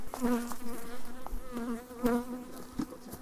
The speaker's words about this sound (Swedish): Jag ställer mig på någon form av avstånd tror jag. Men det är fortfarande bin som tycker om mikrofonen här. Så jag får nog backa.